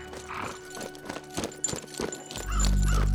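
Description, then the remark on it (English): A rider sets out on a saddled horse: steady clip-clopping hooves beat out a regular rhythm, followed by the horse's loud, drawn-out whinny that rises over the final second. “I saddled up my horse and set out.”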